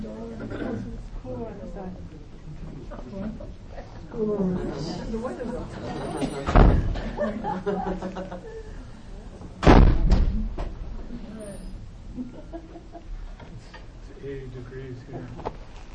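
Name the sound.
doors being closed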